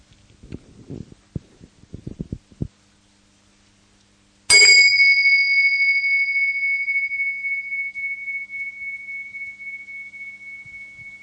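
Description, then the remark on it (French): A few soft knocks and shuffles, then a single gong strike to open an evening gathering rings out clearly, its bright metallic tone hanging and slowly fading over several seconds. “Et je vais nous inviter à démarrer au son d'un gong pour juste exprimer notre présence partagée.”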